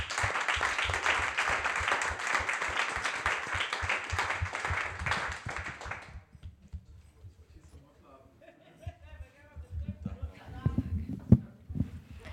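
A crowd applauds steadily and loudly for about six seconds as a thank-you to everyone at a discussion event with guests, before the clapping stops abruptly, leaving quieter murmuring, a few soft chuckles and scattered thumps.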